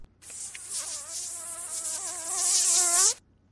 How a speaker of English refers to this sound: Ah, got them. Mosquitoes.